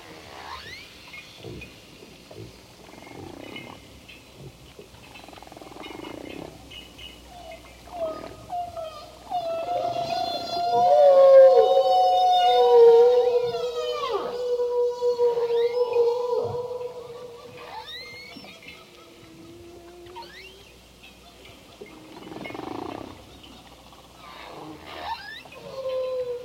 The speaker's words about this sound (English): the whales were making a lot of sound, and I went out and made the recording